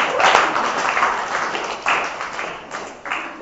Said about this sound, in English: Has anyone gone further than the city to surf? Hey, round of applause.